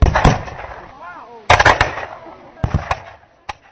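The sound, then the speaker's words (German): Soldiers open fire on demonstrators at a demonstration on the Rossmarkt in Prague: several loud, sharp gunshots crack out in irregular clusters, each followed by a short rumbling decay, with faint shouting voices in the gaps between volleys. “Das Militär eröffnet Feuer auf die Demonstranten.”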